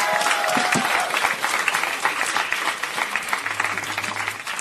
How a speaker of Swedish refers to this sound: Ge en varm applåd till Göran Greider.